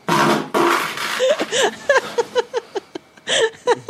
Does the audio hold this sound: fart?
yes